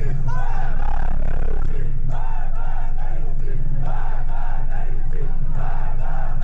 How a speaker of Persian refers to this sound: در ویدیوهایی که در شبکه‌های اجتماعی منتشر شد، معترضان از جمله شعار مرگ بر گرانی، مرگ بر رئیسی و مرگ بر خامنه‌ای سر می‌دادند.